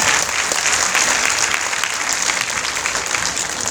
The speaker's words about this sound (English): On peut applaudir, s'il vous plaît.